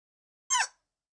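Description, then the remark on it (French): An AI-generated sound of a dinosaur crying cutely: a single short, high-pitched squeaky cry with a quick downward sweep, heard alone and fairly soft in otherwise silent surroundings. “Il y a un dinosaure qui crie de façon super mignonne.”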